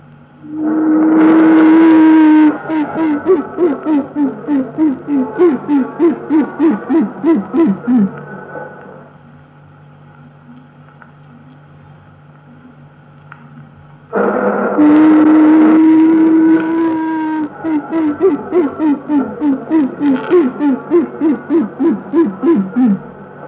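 Queen bee piping in two bouts, each a long steady buzzing note followed by a quick run of a dozen short toots, with a quiet gap between bouts and no voices.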